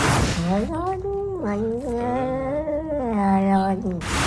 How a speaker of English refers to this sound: Another exhibit B is a cat saying, hold on to my fur, I like it, which is an amazing one.